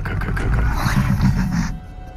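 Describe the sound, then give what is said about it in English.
A deep, rumbling growl made from a tiger recording processed into a menacing creature sound for the Indominus Rex, loud, rolling continuously for about two seconds with a throaty low-end texture before tapering off abruptly, heard alone without talk. “That's awesome that it's a tiger. And it's a really sweet sound. But we turned it into something scary.”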